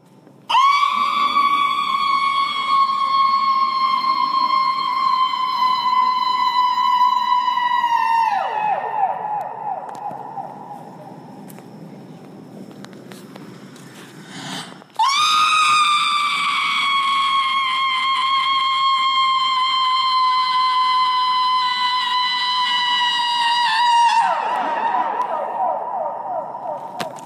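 A performer screams into a microphone in a stage performance of Yoko Ono's Voice Piece for Soprano at the Hirshhorn: two long, amplified howls, each held loud at a steady high pitch for several seconds before sliding downward into a rougher, lower tail, with a brief lull between them.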